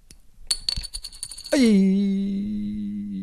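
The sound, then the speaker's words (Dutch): A plastic toy coin is tossed and lands, giving a quick patter of light clicks before settling into a sustained, slowly fading whirring ring as it spins down on a hard surface. No one speaks. “Nee, ik gooi hem nog op. Ik liet hem even vallen. En dan, ik vind trouwens een echt muntje klinkt beter hoor. Dat is een plastic ding.”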